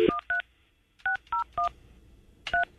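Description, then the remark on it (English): A phone number being dialed: six short two-pitch keypad beeps in uneven groups, two quick ones, a pause, three spaced beeps, then a final one. No voices. “calling Chloe's phone”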